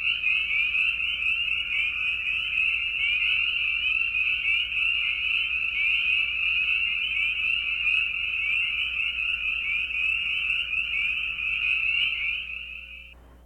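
A dense, continuous chorus of spring peeper frogs, so many singing males that their number cannot be estimated, countless high-pitched peeps blending into one steady shrill wall of sound that holds evenly throughout before fading at the very end.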